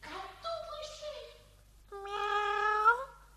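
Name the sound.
cat meowing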